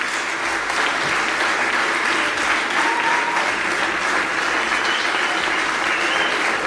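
Sustained audience applause for the OSA comrades who occupied the faculty of letters in Rome, a dense, steady wash of many hands clapping at an even, fairly loud level throughout, with no speech rising above it.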